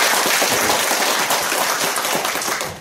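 A crowd applauds steadily, a dense wash of many hands clapping at once, loud and sustained for a few seconds with no one speaking.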